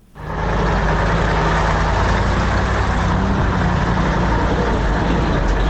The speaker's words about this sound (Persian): سرک عمومی داخل دره سالنگ مثل همیشه شاهد تردد کاروان‌های موترهای مسافربری و باربری است که ازدحام آن چشمگیر به نظر می‌رسد.